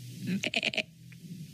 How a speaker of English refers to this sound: Oink, oink. It sounds like animals. It's maybe we're in a barn, not a castle. It does sound like animal.